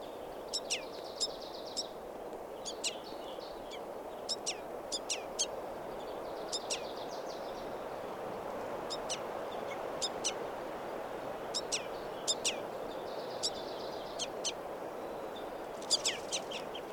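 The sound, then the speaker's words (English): A juvenile bird perched on the bark of a tree calls repeatedly with sharp, high-pitched chirps in quick clusters throughout, over a steady low outdoor background hum. “And now I see a calling juvenile perched on the bark of a tree.”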